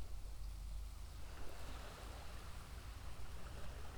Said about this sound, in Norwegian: Samtidig hører du på lydene som er rundt deg. Alle lyder som du hører er vind som bløs. Bølgene som slår innover.